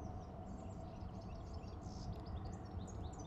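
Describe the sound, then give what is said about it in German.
Faint, scattered bird chirps and tweets flit high above a steady, dense low rumble of outdoor ambience, the calls soft, with no one speaking. “Vielleicht hörst du das Zwitschern der Vögel.”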